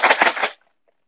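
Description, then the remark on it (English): Popcorn kernels kept in a fridge rattle in a container in three quick, dry shakes lasting about half a second, fairly loud and crackly, then stop abruptly into silence. “Oh my god, I have popcorn in my fridge!”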